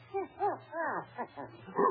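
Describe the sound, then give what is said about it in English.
A dog with a keg of brandy around its neck barks and yips in a quick run of short, high, wavering yelps, moderately loud, with no voices over it. “Oh, it's only a dog.”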